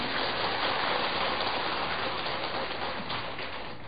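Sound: audience applause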